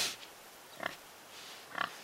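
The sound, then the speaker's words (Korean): Two short, quiet grunts about a second apart from a small black pig running about in a wooden pen at an abandoned house with an old tobacco shop sign, in a village at Jirisan; slightly squeaky, over faint background hiss with no voices. “인적도 없는 집에 돼지가 있다니.”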